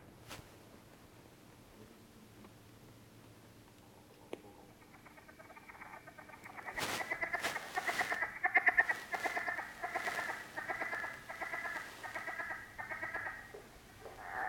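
Frog calls: a few faint clucks at first, then a loud, rapid chorus of rubbery groaning croaks like a hand rubbed over a balloon, pulsing steadily with no talking.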